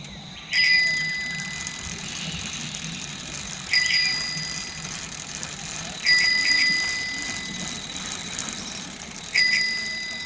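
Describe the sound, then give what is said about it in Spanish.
A steady, buzzing rattle from a small piece of cardboard placed between the spokes of a new purple bicycle, so that it roars like a motorbike, runs throughout, while a bicycle bell rings four times at irregular intervals, bright. “Entre sus rayos, Juan le puso un cartoncito para que rugiera como si fuese una moto.”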